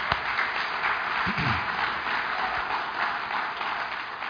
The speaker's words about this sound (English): Can we give one more round of applause for those who are baptized this morning?